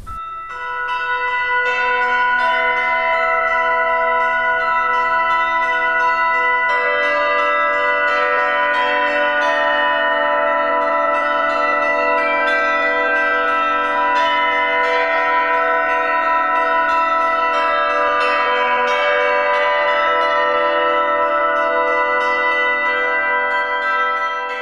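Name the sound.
church bells ringing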